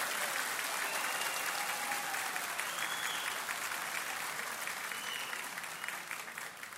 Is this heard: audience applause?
yes